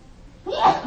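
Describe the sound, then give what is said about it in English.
A short, sharp sneeze bursts out after a brief quiet moment, a single fairly loud explosive exhale with a breathy, voiced edge. “Bless you.”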